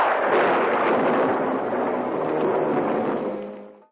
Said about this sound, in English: But I'm happy they did because this movie has one of my favorite things, well-timed, ominous thunderclaps. Yes. Perfectly punctuating conversation.